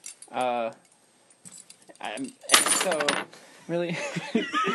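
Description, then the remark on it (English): A short metallic jingle of keys being set down on a table, a brief bright rattle lasting under a second, with bursts of laughter before and after it. “I just put the keys on the table.”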